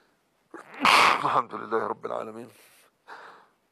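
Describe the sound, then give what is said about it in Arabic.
A single sharp, breathy sneeze bursts out, followed by a few seconds of muffled voice sounds and a short final exhale. “الحمد لله رب العالمين، غفر الله لنا ولك وللمسلمين، يرحمك الله، غفر الله.”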